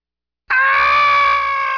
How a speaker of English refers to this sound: That horrifying scream is not, I said not, from the resident ghost of the hotel.